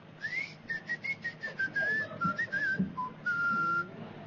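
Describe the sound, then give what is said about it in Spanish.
A squeaky pet toy whistles in a quick run of short, high squeaks, ending with one longer drawn-out whistle, fairly loud with no voices. “A ella le gustan los juguetes con silbido.”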